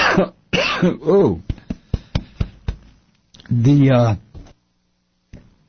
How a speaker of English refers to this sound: if I can stop coughing here